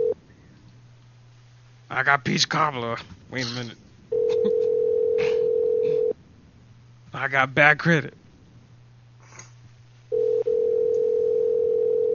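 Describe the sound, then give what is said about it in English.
A phone call to a number in New York rings out on the line: two long, steady ringback tones about two seconds each, over a low constant hum, with a man talking in the pauses between them. “Alright, we're calling New York, New York.”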